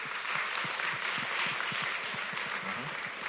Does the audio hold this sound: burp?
no